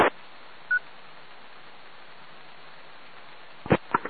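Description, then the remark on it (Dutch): During a phone conversation, a single short electronic beep of another incoming call sounds over a steady hiss of the phone line, followed a few seconds later by a couple of sharp clicks, with no one talking. “Ik kreeg het telefoon tussendoor.”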